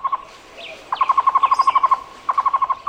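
A Cuban trogon (tocororo), Cuba's national bird, calls in quick, rhythmic runs of clear, hooting notes, several series repeating with short pauses. Distinct, with a faint background.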